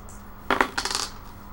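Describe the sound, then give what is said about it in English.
Dice clatter across a tabletop in a quick burst of sharp clicks and rattles lasting about half a second, fairly clear, then settle into quiet room tone. “You guys are bad at rolling today.”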